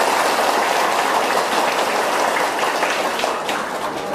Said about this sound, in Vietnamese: Để thể hiện sự vui mừng ngày hôm nay đó, xin tất cả dâng cao tràng vỗ tay để chúc mừng.